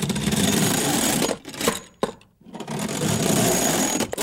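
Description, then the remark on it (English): A metal shop shutter rattles as it's pulled down: a loud, continuous clattering roll that stops briefly partway through, then resumes and runs to the end. No one speaks. “I'm pulling this shutter down.”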